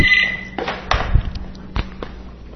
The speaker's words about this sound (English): Pardon me for the phone that I put over on the other side. Forgot to turn that off.